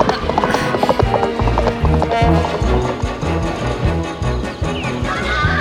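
A bolting horse gallops in fast, rhythmic hoofbeats with a loud, busy clatter of mechanical rattling and creaking over a dense, continuous background.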